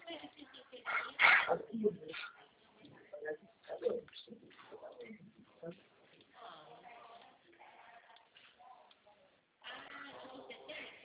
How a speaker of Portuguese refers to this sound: Peço desculpas pela tosse, viu?